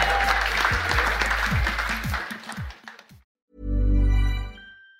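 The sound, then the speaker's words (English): Loud, dense audience applause with scattered cheers, the audience applauding themselves on a Friday night, fills the first three seconds, then cuts off abruptly; after a short pause, a brief, steady low droning tone follows. “Give a huge round of applause to yourselves on Friday night.”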